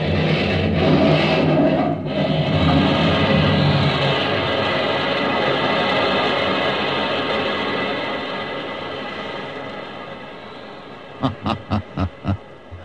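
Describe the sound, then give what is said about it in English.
A massive explosive blast, set off by pushing a plunger, tears a bridge apart, its thick roaring rumble of crashing debris filling several seconds before slowly fading, followed by five quick, evenly spaced sharp bursts. “Wait till it hits the middle, and then push the plunger. You'll take the whole bridge, you know.”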